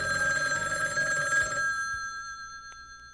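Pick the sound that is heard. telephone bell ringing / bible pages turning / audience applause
telephone bell ringing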